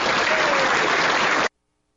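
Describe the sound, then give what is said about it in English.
Loud, dense crowd applause, a standing ovation from a crowd on its feet for a speaker, fills the first second and a half, a steady roar of many hands clapping together, then cuts off abruptly into silence. “Standing ovations, like hitting the talking points left and right.”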